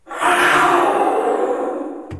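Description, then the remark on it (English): A single loud, raspy roar lasting about two seconds, made by a human voice shouting through a conch shell to imitate a jaguar. It swells quickly, holds steady, then cuts off abruptly. “Wow, so that was through a conch shell, that roar noise.”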